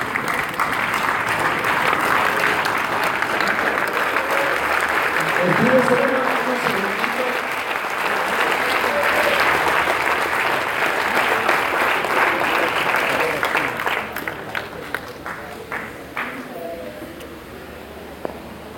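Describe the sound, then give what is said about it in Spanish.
A standing audience applauds the Lord steadily for about fourteen seconds, a dense wash of clapping with scattered voices and cheers, then the applause thins out into a few isolated claps before fading. “Póngase de pie, denle un aplauso al Señor.”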